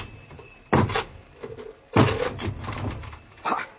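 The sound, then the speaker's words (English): A wooden door is battered in a series of heavy blows, three main crashing impacts with splintering, rattling noise trailing between them. “Break this door down!”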